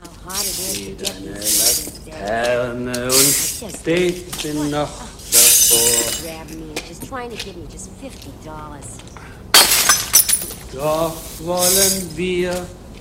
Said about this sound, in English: At the Hammerhead Club, Curly sweeps up the broken glass